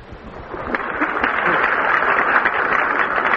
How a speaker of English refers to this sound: All of these citations, ladies and gentlemen, are thoroughly deserving of your heartiest applause, I can assure you.